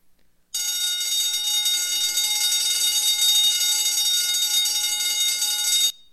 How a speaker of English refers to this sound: You awake now? Is there an alarm going off in your life? Is there an alarm going off in your life? God is trying to get your attention. When you heard that alarm, you paid attention.